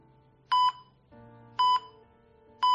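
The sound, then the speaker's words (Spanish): Three slow, evenly spaced electronic beeps, each short, bright and clear, with a steady low hum running underneath and no one speaking. “Al final son nuevas rutinas y este sonido que antes marcaba su día a día para ir a trabajar perdió importancia por otro pitido más pausado, pero mucho más importante.”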